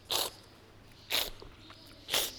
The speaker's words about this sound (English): Strippaggio, or stripping. It's slurping, essentially. You slurp, drawing in air in the corners of your mouth, which aerosolizes the oil